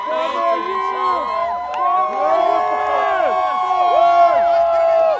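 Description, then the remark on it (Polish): A large, lively crowd of about 2,000 mostly young people celebrating Barack Obama's re-election win in the square in front of the White House, with overlapping shouts and cheering voices filling the space continuously, loud throughout. “może 2000 głównie młodych ludzi cieszących się z wygranej”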